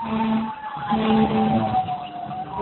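Fire engines roaring past outside on Medical Center Drive by an office, a steady droning engine noise with sustained tonal wails, fairly loud and continuous for a few seconds, with no one talking.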